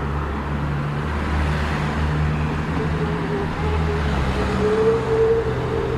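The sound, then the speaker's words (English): Steady road traffic on a steeply sloping bridge: a continuous low engine rumble from cars and heavier vehicles, with a faint rising whine from a passing motor, no voices present. “And now I re-enter the traffic on the bridge.”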